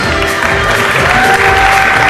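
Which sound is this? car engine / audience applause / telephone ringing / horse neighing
audience applause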